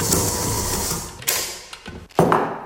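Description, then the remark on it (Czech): A small concrete mixer churns conductive concrete ingredients mixed with carbon fibres, with a steady, dense mechanical rumble and hiss, broken by a few sharp knocks and clatters as the load tumbles. No one speaks. “Suroviny vodivého betonu jsme si nasypali do malé míchačky.”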